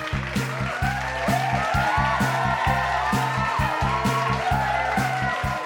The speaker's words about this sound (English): Huge round of applause for Brian there, everybody.